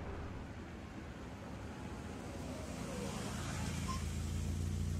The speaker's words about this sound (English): beat the car horn and pulled up at the curb.